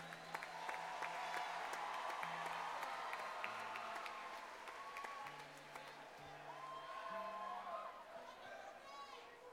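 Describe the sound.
A crowd applauds steadily for the whole stretch, dense overlapping claps mixed with cheers and scattered shouting voices, holding a fairly even level before easing slightly near the end.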